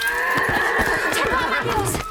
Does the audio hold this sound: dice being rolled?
no